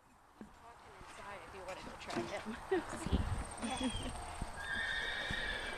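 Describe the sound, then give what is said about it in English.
An Ojibwe spirit horse neighs and whinnies several times at Midowake Farm, an indigenous tourism and gathering space in Ottawa, with hooves clip-clopping and other outdoor sounds in the background. “Ojibwe spirit horses have found a new home.”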